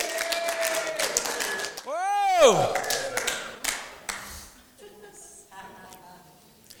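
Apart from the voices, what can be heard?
audience applause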